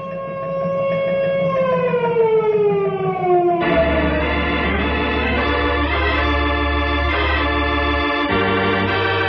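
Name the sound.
disaster alarm siren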